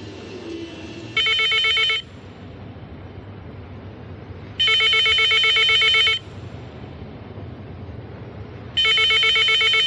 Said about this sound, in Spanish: Más tarde suena el teléfono en el estudio.